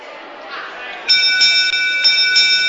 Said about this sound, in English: We'll spend just a few minutes and then the bell will be rung to wind it up.